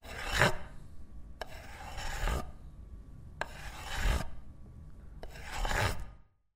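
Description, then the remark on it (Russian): A knife saws through a pie on a plate, cutting it into pieces, in four slow, rasping strokes, each a scraping crunch against the crust, with short pauses between and no voices. “Положила пирог на тарелку. Порезала пирог на кусочки.”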